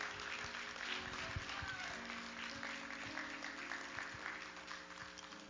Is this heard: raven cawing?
no